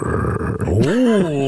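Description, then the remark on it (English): A dog growls low and rough, the rumble rising into a strained, tonal snarl before holding steady, loud for about a second and a half. “Or no, but, you know, dog didn't like it.”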